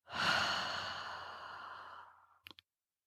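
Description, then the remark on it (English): A long, breathy exhale through the mouth during a breathing exercise, with an airy hiss that starts strong and slowly fades over about two seconds, followed by a couple of faint soft clicks. “Exhale.”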